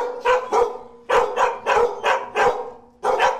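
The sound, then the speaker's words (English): Several dogs of all kinds in a dozen or so outdoor fenced-in cages at an animal shelter bark in overlapping bursts, about eight sharp barks in quick, uneven succession, loud and reverberant, with no talking. “Outside in a dozen or so fenced-in cages are the rest of the dogs. All kinds of dogs.”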